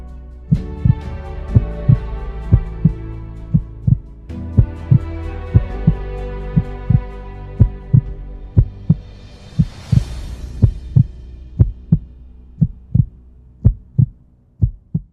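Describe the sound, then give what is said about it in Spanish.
A steady, forceful heartbeat thumps in a regular rhythm over a low sustained drone, with a brief airy swell midway through; the pulses grow more prominent and isolated toward the end. “entonces tendremos que extender el vuelo más allá, donde se acabe el espacio, y solo quede el poder de un latido intenso.”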